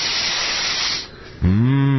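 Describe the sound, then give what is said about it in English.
A long, deep inhale through the nose, a steady breathy rush lasting about a second, fades out, and then a voice comes in with a low, sustained tone. “Go ahead, take a deep breath.”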